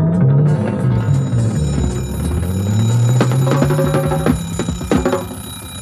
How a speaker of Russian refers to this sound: Но не спит будильник, а звонит, коварен как бандит.